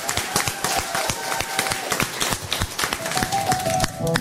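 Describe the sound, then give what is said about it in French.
A crowd at Parc Astérix applauds steadily for a guest, many hands clapping in a dense, sustained patter at moderate loudness, with faint tonal sounds drifting underneath. “Je vous demanderai un tonnerre d'applaudissements pour notre invité du jour.”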